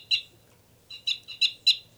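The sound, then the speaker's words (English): Two birds calling with sharp, high-pitched chirps: one clear note, a short pause, then a quick run of four more. The calls are loud over a faint low hum, with no voices. “Now both birds. 318 loud.”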